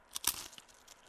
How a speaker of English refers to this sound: I can hear the crunch. Mm. That's the biscuit, not the eggs, I hasten to add.